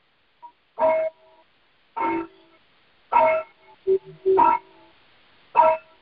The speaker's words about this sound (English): Those are healing church bells with solfeggio frequency. And it's a sound to just let your brain know that this is a different space.